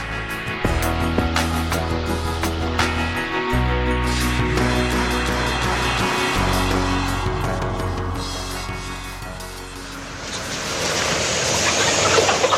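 A dense, constant din of countless chickens clucking and squawking together on an industrial chicken farm, layered over a steady low mechanical hum, loud and unbroken, with no one speaking.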